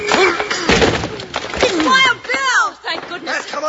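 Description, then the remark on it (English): The door of the Banner office is forced open by shouldering it together: heavy thuds and a splintering, breaking crash, loud and abrupt, with excited voices shouting over and after the impacts. “Put your shoulder to the door, Jingles.”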